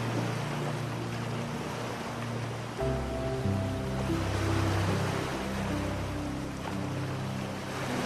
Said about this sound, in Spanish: Y cuando estés preparado o preparada, déjate llevar con el sonido de las olas hacia un sueño reparador y profundo.